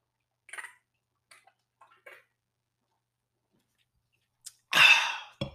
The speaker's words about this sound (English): Now, with that being said, I want to just take a nice cold refreshing sip of this wonderful beverage. I'm sure you guys already know what I'm drinking today.